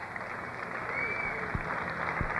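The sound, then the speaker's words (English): Sustained applause from an audience for the eight contestants of a Sid sound-alike contest, a dense wash of clapping with a couple of sharper individual claps standing out, steady and moderately loud throughout. “Let's give a round of applause for all of our 8 Sid Sound-alike contestants.”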